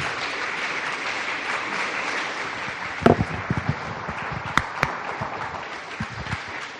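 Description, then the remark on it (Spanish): A crowd applauds steadily, a dense wash of clapping that holds for the whole stretch, with a few sharper, louder claps standing out midway and near the end. “Un aplauso.”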